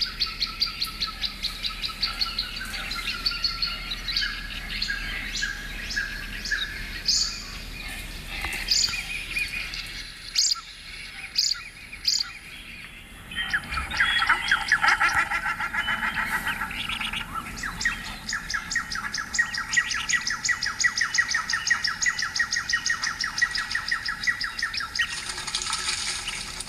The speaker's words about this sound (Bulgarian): Да, тук може да се чуват песни на птици. Има птици с различни размери, като например стродия, бял ангъч, които са по-малки, морски дърдосвирец, тръстиково шаварче, както и песен на голяма птица, като кадроглавия пеликан.